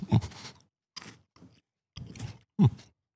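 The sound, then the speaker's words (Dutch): Someone takes a bite of spicy food and chews, making four short crunchy bursts separated by brief pauses, with a low grunt-like murmur in a couple of them. “Om ook een hap te nemen.”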